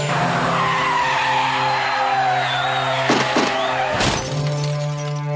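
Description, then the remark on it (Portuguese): A car's tires squeal in a long, loud skid, followed by a couple of thuds and then a sudden heavy crash with glass shattering and tinkling as it scatters. “Tiro no pneu, pra gente capotar.”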